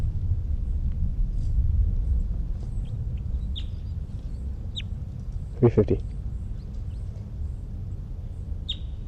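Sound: bird calls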